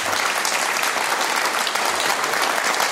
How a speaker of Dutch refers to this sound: Ja, je bent vaker bij ons te gast geweest, maar zo'n applaus heb je nog niet heel vaak gehad. Nee, ze klappen bijna harder voor Han dan voor ons, hè?